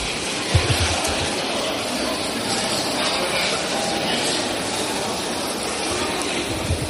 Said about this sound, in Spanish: Está siendo muy aplaudido ahora por toda la bancada popular.